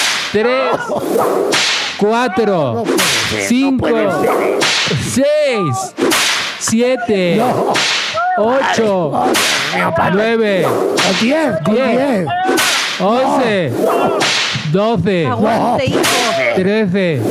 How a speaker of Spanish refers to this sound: Y entonces vamos a darle 15 latigazos, porque son 15 años.